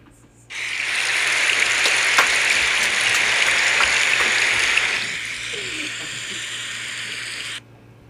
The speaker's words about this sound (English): Yes. Peaceful rain noise for my viewers. I don't even know if this is binaural.